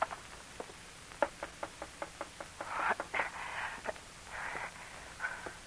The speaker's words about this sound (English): One night, weeks later, Rose DeFries jumped up in alarm when she heard a knock on her window.